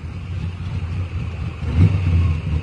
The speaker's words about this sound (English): there you go, race car